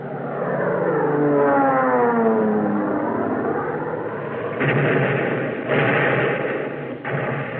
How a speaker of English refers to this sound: Japanese fighter planes roared in to break up the Allied attack.